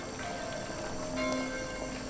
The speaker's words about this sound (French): Alors qu'il entrait dans la mairie, le clocher de l'église s'est mis à carillonner d'une drôle de façon.